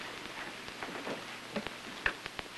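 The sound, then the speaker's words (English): Steady rain patters down with scattered sharper drips and taps striking a surface, a soft continuous wash underneath. No voices. “I wish she'd get back from that walk she was so bond determined to take. All this rain, too.”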